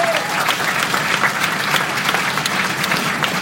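A room full of people claps steadily for Mayor Kreisman, a dense, sustained wash of applause that holds at an even level throughout with no talking over it.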